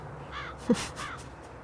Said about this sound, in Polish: O, wrona przyszła, zobacz. Słucham? Wrona przyszła.